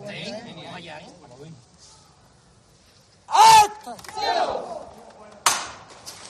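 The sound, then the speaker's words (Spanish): A man speaks briefly, then after a pause a crowd erupts in loud cheering and shouts, with a rising swell of outdoor clapping and noise toward the end, at the door of the Basílica de la Macarena in Seville as the Virgen de la Esperanza is first lifted before coming out. “Todavía no ha salido, ya se escucha esa ebullición de aplausos en la puerta de la Basílica con su cara que lo ilumina absolutamente todo.”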